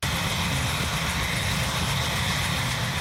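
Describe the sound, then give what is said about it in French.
The engine of a remote-controlled K-Max helicopter drones steadily and loudly during a demonstration flight, with a deep low rumble under a broad hissing whine. There is no speech. “Divers responsables gouvernementaux américains ont assisté ce mois-ci à un vol de démonstration de l'hélicoptère téléguidé K-Max.”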